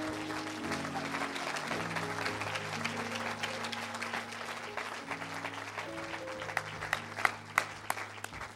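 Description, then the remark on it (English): An audience at a morning church service claps for God after a prayer, a dense, steady burst of applause over sustained organ-like chords, with a few sharper, louder individual claps standing out near the end. “Let's give God a great big hand clap.”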